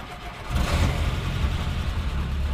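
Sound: jeep engine revving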